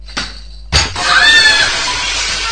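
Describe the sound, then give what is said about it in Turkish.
A short thump of a kicked ball, then a loud crash of a glass window shattering from the shot, with bright ringing shards clattering and tinkling for a couple of seconds afterward, with no voices. “Eyvah, cam kırıldı.”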